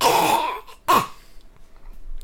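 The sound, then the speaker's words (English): A male cat hacks up a hairball: a long, raspy retching burst, a brief pause, then a second harsh, wheezing heave that fades into quiet. “Okay, the fact that he actually got a hairball up.”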